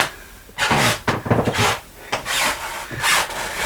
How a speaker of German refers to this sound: Eben hat es mehr geknarrt. Da kommt doch auch, wo du lang gehst. Ja, eben war ich doch genau hier. Oh Gott, ob das später in unserem Haus auch so sein wird, dass man das so knarren hört, dass die Leute, die unter uns sind, immer hören, wenn du da